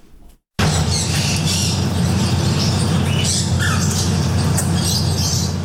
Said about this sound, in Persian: ۱۱۰ پرنده زیر یک سقف با مشتریان. ابتکار جالبی که از سوی مالک یک چایخانه در بنکاک، پایتخت تایلند، صورت گرفته. انواع کناری ها با رنگ های مختلف، توتی های ناطق و چند نوع پرنده در این چایخانه دیده می شوند.